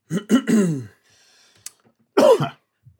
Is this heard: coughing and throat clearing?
yes